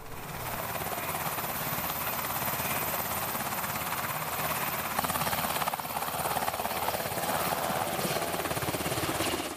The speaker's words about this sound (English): The students will signal the helicopter into the drop zone.